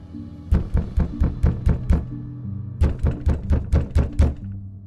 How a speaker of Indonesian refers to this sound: Dia teriak lari dan meminta masuk ke rumahku dengan menggedor-gedor pintu rumahku.